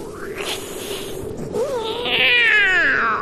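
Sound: cat yowling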